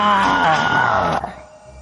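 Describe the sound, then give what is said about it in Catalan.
A single harsh, strained scream, loud, blending rage and terror, coming from a gaming room; it holds for about a second before cutting off abruptly into a faint, fading tail. “Però penes transcorreguts uns segons, es va sentir un crit aspre i esgarrifador. Una mescla de ràbia i de terror que procedia de la sala de joc.”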